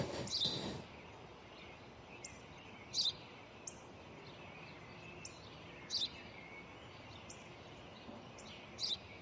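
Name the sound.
house sparrow chirping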